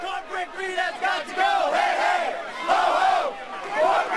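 Occupy Wall Street protesters on New York City's Brooklyn Bridge shout and chant at night, many voices overlapping in rising and falling cries, the din staying loud throughout and swelling in a few surges.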